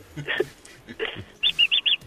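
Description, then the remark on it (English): Bird-like whistling: two fluttery chirps, then four short, evenly spaced high-pitched whistle pips in quick succession, clear, with no talking. “Luckily, now you've got your whistle, you're not going to be troubled by anything they taught you in that lesson at all.”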